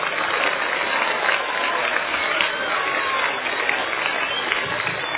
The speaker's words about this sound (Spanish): Así que quiero otro aplauso para ustedes mismos, porque es una escuela faro.